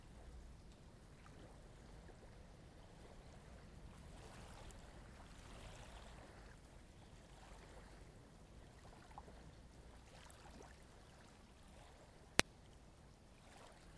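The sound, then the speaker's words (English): Soft, steady lapping of gentle waves against a sandy shore, a low continuous wash with small swells, joined by a single sharp click near the end; no voices. “Gentle waves lap against the small sandy shore.”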